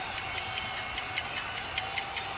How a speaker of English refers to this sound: the seconds are ticking.